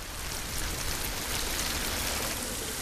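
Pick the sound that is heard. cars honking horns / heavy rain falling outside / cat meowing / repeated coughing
heavy rain falling outside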